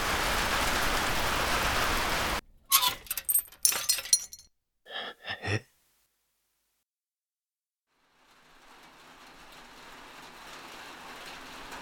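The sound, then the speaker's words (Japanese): Steady cold rain patters on surfaces as a dense hiss, then gives way to a few sharp cracks and rustles, a silent gap, and the rain fading back in softly. “君が僕に覆いかぶさったところで、僕を雨からかばってくれたところで、そんな。”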